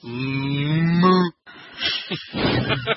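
A single loud, drawn-out cow moo, low, holds for just over a second, then cuts off; after a brief gap come scattered rustling, shuffling noises.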